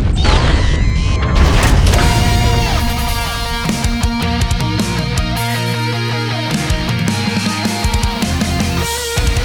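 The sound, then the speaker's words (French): A spaceship crash-lands: a loud, roaring crash with heavy booming rumble at the start, followed by sustained whirring, clanking mechanical noise layered over dramatic tonal music until the end. “l'atterrissage va être sport. Ok, accrochez-vous derrière.”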